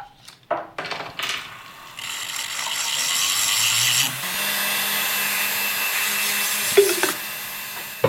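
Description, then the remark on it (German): A few short scrapes and clicks, then a steady abrasive whirring of sanding the edge of a silver ring runs for several seconds before tapering off, with no one speaking. “Dann nehme ich einen ganzen Ring und mal die Kante abschleifen und dann kann man immer feiner werden.”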